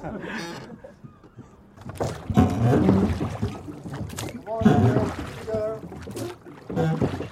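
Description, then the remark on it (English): A rowing boat moves through water, with oar splashes and sloshing coming in uneven strokes, while voices talk intermittently over the watery noise. “You're balancing the boat out.”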